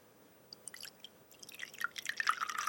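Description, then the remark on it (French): Sake trickles and splashes into a small ceramic cup, starting as scattered drips and building to a steady pour with bright clinking resonance. No one speaks. “Je vais vous demander, Adrienne Saulnier-Blache, de servir alors un verre dans un contenant qui est un contenant en céramique”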